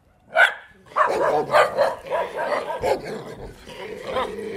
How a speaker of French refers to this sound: Le Skubas, alors c'est comme un chien des Pyrénées, un peu, un chien de montagne, quoi. Un gros berger. Ah, il a l'air gentil, ce Skuba.